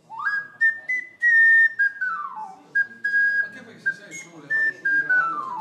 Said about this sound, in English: I think this is the magic of Ocarina Festival, that you can listen to Ocarina sound everywhere downtown Budrio.